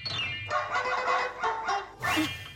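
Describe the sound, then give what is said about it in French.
A short jingle for a dog quiz, the 'quiz toutou flingueur', built from a series of bright, bark-like harmonic bursts in an uneven rhythm, ending in a louder, brighter flourish, with no talking. “Très joli jingle, très efficace.”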